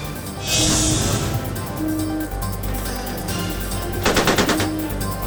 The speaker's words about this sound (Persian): ناو آمریکایی در واکنش به نزدیک شدن یک قایق ایرانی تیر اخطار شلیک کرد.